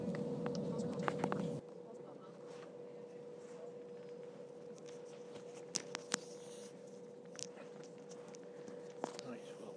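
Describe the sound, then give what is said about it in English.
A steady electronic warning tone from a train's doors at Wadhurst station, East Sussex, sounds throughout, over a low carriage rumble that drops away early on, with a few soft knocks and clicks. “The door's beeping for Wadhurst.”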